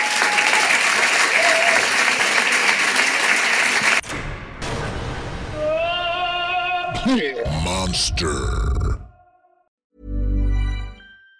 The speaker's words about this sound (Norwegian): og så må du gi en stor applaus og masse rødvin til dagens mann